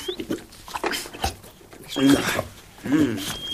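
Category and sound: animal, dog whimpering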